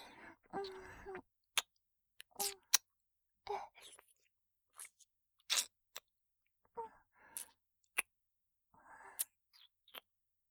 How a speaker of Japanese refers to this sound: かわいいから、キスしてあげます。